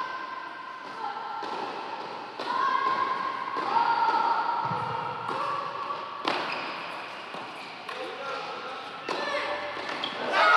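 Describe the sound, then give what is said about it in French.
A tennis rally at match point of the deciding doubles match in a final between Cyprus and France plays out, with crisp ball strikes and bounces at an irregular pace over a murmuring crowd, and the noise swells sharply at the end as the Cypriot players cheer. “Et là, je vous laisse écouter la balle de match. Il y a un peu de suspense, il y a un peu de tension quand même.”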